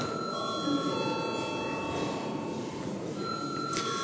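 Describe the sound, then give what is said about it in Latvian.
A parliamentary voting bell rings continuously, called when deputies demand a vote on a bill. It is a steady, high metallic tone held for several seconds over a low murmur of background noise in the chamber. “Deputāti prasa balsojumu, lūdzu zvanu.”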